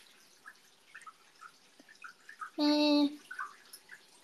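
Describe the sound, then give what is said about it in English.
Soft water trickles and drips with scattered little plops, broken briefly by a loud, steady tonal squeal lasting about half a second, then the quiet dripping continues. “Water ASMR sounds a little, you know, or maybe that's just me.”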